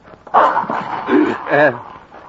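mastiff dog growling

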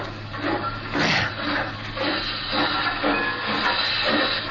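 steam locomotive hissing steam

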